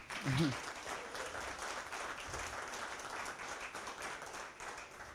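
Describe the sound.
Steady audience applause fills the room, a dense wash of many hands clapping at a moderate distance, with a brief low voice murmur near the start.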